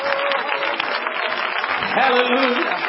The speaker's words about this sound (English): Somebody clap your hands to the Lord and praise Him.